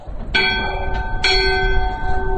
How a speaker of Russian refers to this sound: Вот. Или вятский колокол.